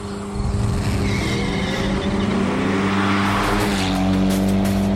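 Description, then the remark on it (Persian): A car engine revs hard and steadily as the car is driven for a few laps, with the pitch rising and falling as it accelerates and brakes, and tires squeal briefly. No one speaks. “و حالا برگردیم پشت فرمون چند تا ماشین با اولین برداشتامون در چند دور سری.”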